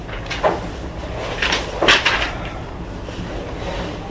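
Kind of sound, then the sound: household object, door being closed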